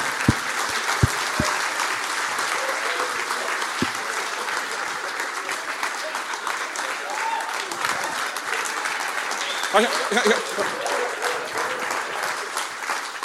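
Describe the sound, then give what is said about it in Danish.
An audience applauds loudly and steadily for the full stretch to welcome the next guest, a blind undertaker, with dense clapping and a few faint voices and cheers mixed in near the end. “Giv en kæmpe stor til en blind bedemand.”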